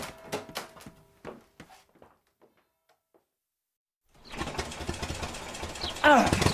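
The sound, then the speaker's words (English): A handful of sharp clunks and knocks fade into silence, then the engine of a motor car belonging to a man called Hardcastle turns over and settles into a loud, steady rumbling roar that swells near the end with a brief whine. “I've got a motor car and a basket of strawberries and a bottle of Chateau Perrigue, which isn't a wine you've ever tasted, so don't pretend.”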